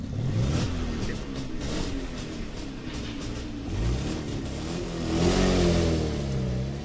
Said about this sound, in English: And this is starting of the engine.